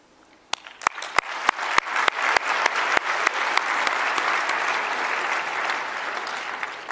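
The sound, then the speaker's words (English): An audience at a convention breaks into applause, starting with a few sharp, evenly spaced claps that quickly swell into a steady, sustained round of clapping from many hands. “Let's also give them a round of applause.”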